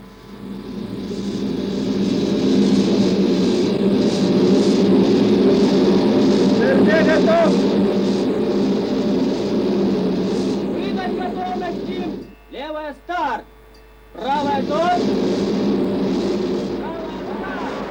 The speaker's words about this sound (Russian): Система пуск старта ракет готова. Данные введены. Двигатель запустить. Запуск.